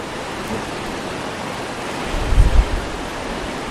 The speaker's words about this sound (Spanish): Y a esta hora, a las 12 y 20 minutos, así suena el río Ebro a su paso por Zaragoza.